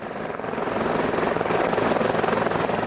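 helicopter

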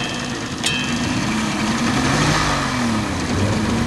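small boat engine running

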